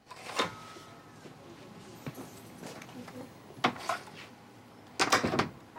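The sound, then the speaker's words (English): A door opens and shuts as a person backs away toward it and leaves, with a handful of sharp thuds and clicks, a louder knock near the start and a cluster of bangs at the end, amid faint background hiss. “backs away towards the door, then goes to leave”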